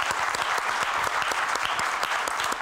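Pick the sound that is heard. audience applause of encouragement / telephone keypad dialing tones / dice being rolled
audience applause of encouragement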